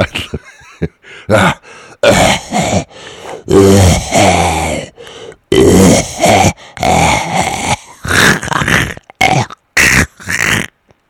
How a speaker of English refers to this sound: You know what phrase I always loved? A productive cough.